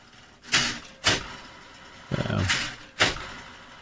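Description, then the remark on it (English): A printer runs on its own while printing out pages, thumping out sharp mechanical clunks about every half second, with a longer grinding whir in the middle before another clunk. “That's my printer in the background going insane.”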